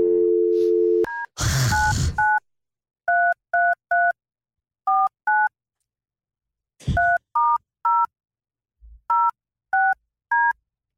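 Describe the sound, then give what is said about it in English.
A steady low dial tone gives way to a burst of rustling noise, then about a dozen bright touch-tone keypad beeps are dialed in short uneven clusters with pauses between them, calling Tiny Trains in Galway City. “All right, we are calling Tiny Trains in Galway City.”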